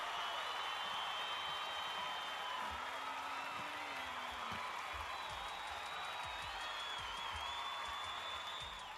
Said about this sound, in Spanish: los aplausitos, ¿cómo no?